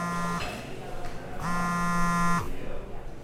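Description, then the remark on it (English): A mobile phone vibrating in a pocket with an incoming call from an unknown number: a short low buzz, a pause, then a longer buzz of about a second, steady and droning over a faint background murmur. “Okay, so you're in the middle of enjoying your lunch, and suddenly you hear that all too familiar buzz in your pocket.”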